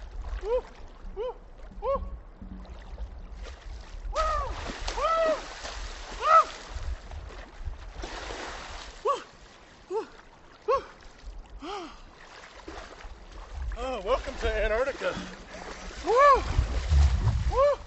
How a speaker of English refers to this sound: during the 2014 version of his annual New Year's Day wade into the New River. This watery welcome to January 1st, unaided by a wetsuit, lasted only a few seconds.